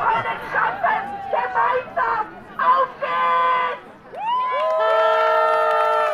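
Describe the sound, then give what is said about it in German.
A football crowd at a women's Landespokal final in the Volksparkstadion in Berlin-Mariendorf, led by a 14-year-old with a megaphone, chants in short rhythmic bursts of many voices, then breaks into a long, sustained sung phrase with rising notes, loud and continuous to the end. “mit meinem Megafon haben wir mehrere Lieder und ich stimme die dann an und dann macht das Publikum halt mit”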